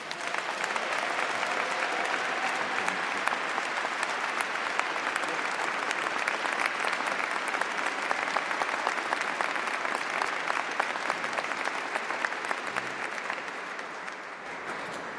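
Sustained audience applause, a dense steady wash of many hands clapping at an even loudness for about fifteen seconds before easing slightly at the end.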